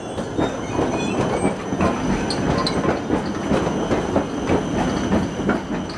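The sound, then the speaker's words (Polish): A tram on the line between Łódź and Zgierz, Poland, rumbles steadily along tracks, with rhythmic clicking of wheels over rail joints and faint metallic squeals, continuous with no voices. “Połączenie tramwajowe, ekologiczne między Łodzią a Zgierzem.”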